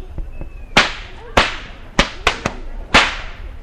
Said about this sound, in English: As the boys that was tending the cattle, they would pop their whips